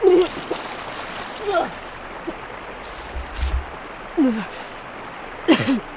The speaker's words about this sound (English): Art felt lightheaded, and his stomach rebelled. Oh. He rushed to the edge of the boat just in time.